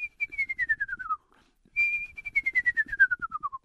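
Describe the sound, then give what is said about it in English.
Two descending whistled trills, each a rapid quavering series of notes sliding downward in pitch, separated by a short pause. A person is imitating an eastern screech owl's tremolo call, clear. “Then the little screech owl has two different calls that people may hear, and it's not a hoot. It's a tremolo, and it sounds like a little like this.”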